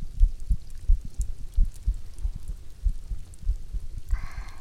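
human body sound, human heartbeat

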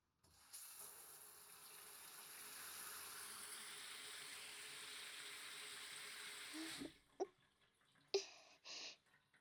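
household object, shower water running

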